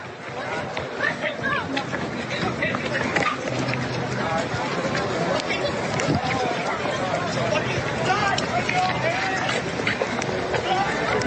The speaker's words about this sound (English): This event, and you can hear people sort of on the edge screaming, and you can kind of see that security is handling people, and then come the boos.